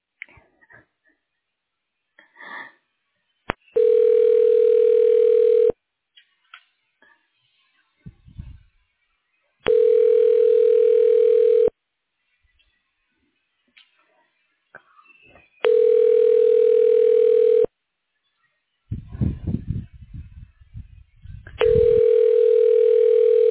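A phone line rings out as a call connects to the office of the Imaging Director at Sunrise Hospital: four long, steady buzzing rings, each about two seconds, separated by pauses of silence broken by a few short rustles and snuffling noises.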